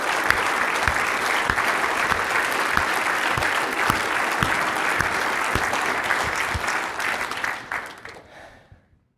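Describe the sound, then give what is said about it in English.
A crowd applauds loudly and steadily for about eight seconds in praise of their Savior, dense clapping with occasional whoops mixed in, then the clapping thins out and fades away at the end. “A little louder for him.”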